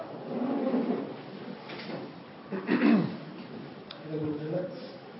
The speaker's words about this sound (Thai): เปิดปิดประตูนี่ทำลายสมาธิ